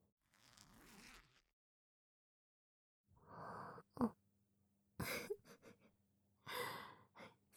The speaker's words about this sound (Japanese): チャック、下ろすよ。